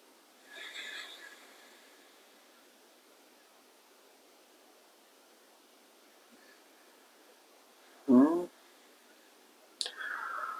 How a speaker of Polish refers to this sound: Z oddali dobiega cię dźwięk płynącej rzeki. Zobacz, z której strony, gdzie to jest, skąd on dobiega.